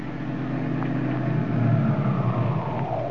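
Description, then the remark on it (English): A car engine rumbles steadily, a low droning hum that seems to ease down as Dick Tracy's car slows and stops on a steep hill outside the apartment house where Tess Trueheart lives, with no voices present. “The great detective is just stopping outside the apartment house where Tess Trueheart lives.”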